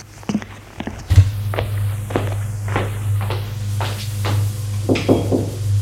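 Footsteps walk at a steady pace, each step a sharp knock on a hard floor, over a constant low hum, as a servant leads a visitor through a marble entrance with a stone staircase and railing toward a door; no one speaks.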